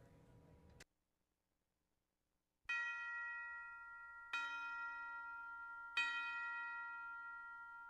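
A Christmas song opens with a short pause, then three resonant bell chimes struck at even intervals, each ringing out loud and sustained with shimmering overtones.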